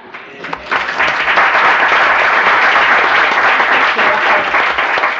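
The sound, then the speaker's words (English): A burst of applause from many hands in a legislative chamber during a senate session, dense and steady at full strength, rising quickly from a few scattered claps in the first second and holding loud to the end. “And the one that was still clapping when everybody else sat down is my son,”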